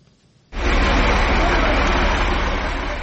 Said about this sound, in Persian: ماشین های باربری گران وزن از محله گلبوته شهری دوشنبه شب و روز می گذرند.